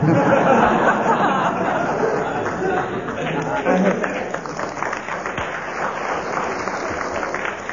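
An audience applauds steadily throughout, a dense wash of clapping mixed with crowd murmur and chatter, holding at an even, moderate level before easing slightly toward the end.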